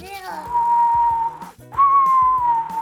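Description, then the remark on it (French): A voice imitates the howling polar wind of Alaska: two long, steady whistling tones, each sliding slightly downward, with a brief pause between them and soft low rhythmic notes underneath. “Je fais le bruit du vent polaire pour te mettre bien dans l'ambiance de l'Alaska et comprendre un peu de quoi on parle.”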